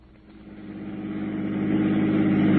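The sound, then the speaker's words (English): A car engine hums steadily with a low, harmonic drone, growing gradually louder over a couple of seconds as if building revs or drawing closer. No voices. “Now, run his car into the curb.”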